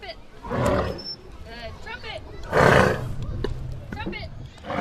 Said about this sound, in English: Hogle Zoo's African elephants trumpet on command and paint with their trunks